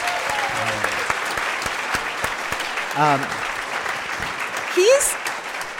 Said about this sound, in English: And we just want to give him a round of applause.